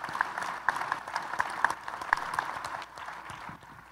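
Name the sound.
audience applause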